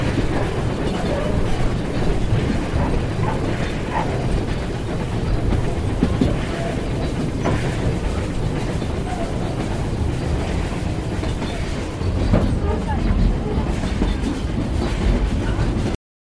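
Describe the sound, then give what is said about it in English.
A train rolls steadily through the small station of Selby, its deep continuous rumble and faint clickety-clack of wheels on rails holding a constant volume throughout, with no voices. “Now passing the short station of Selby.”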